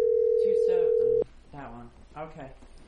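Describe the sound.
A phone line's steady, loud dial tone hums at one pitch for just over a second as a call to Nashville, Tennessee is placed, then cuts off abruptly while people keep talking over and after it.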